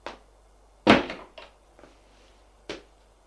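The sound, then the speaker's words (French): A door opening: a loud wooden clunk followed by a few softer knocks and a final latch-like thud, with no one speaking. “La porte s'ouvre.”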